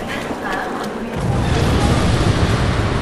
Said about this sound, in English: C'est quoi? Une explosion?